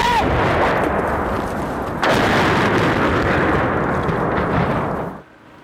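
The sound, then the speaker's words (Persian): Loud, continuous roar of explosions and heavy rumbling from Russian air strikes on Chernihiv in northern Ukraine, with a fresh sharp blast partway through, then the din cuts off abruptly to a quieter background near the end. “حملات هوایی روسیه به چرنیهیف در شمال اوکراین و خروج سراسیمه ساکنان.”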